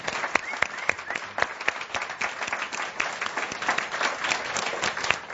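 An audience applauds steadily for several seconds, a dense crackle of many overlapping claps with sharper individual claps popping out, sustained at an even, moderately loud level throughout.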